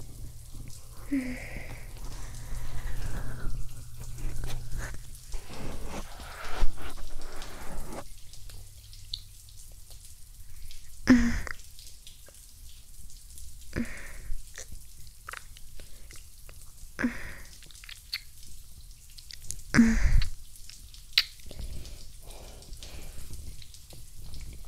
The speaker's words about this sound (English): So, I assume you're having a shower just to unwind.